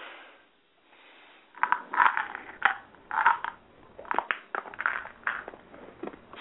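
Pills being popped out of a blister pack: a quick series of sharp plastic crackles and snaps, irregularly spaced and fairly loud, with a crinkly texture and no talking.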